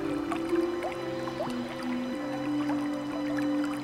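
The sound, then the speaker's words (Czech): Water being scooped up by hand from a small stream to drink, with soft splashes and trickling drips over a few seconds, set against a steady sustained background tone. “Naberte si vodu do dlaní.”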